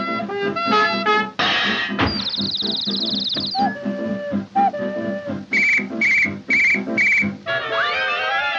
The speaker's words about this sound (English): Boy, listen to that thing. Ain't that a mournful sound? Ah, it's got me. Wish I was homeward bound. Ah, whistles. I'm crazy about whistles.